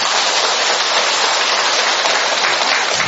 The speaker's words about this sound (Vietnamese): Mời anh chị em, một tràng pháo tay thưa anh chị em.